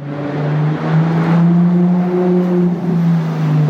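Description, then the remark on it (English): A Ferrari sports car engine roars steadily at high revs, its deep harmonic drone loud, with a slight rise and fall in pitch and no voices. “Now, when you think of a Ferrari sports car, you might imagine this sound.”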